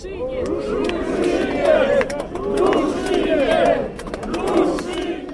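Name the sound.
protest crowd shouting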